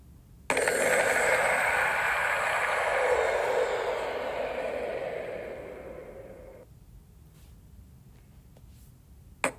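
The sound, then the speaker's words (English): The wither's death sound from a video game, played at regular speed: a harsh, breathy roar that bursts in suddenly, holds for about six seconds while slowly fading, then cuts off, with no talking over it. “And we're going to talk about that quickly, because this is the sound of the wither dying.”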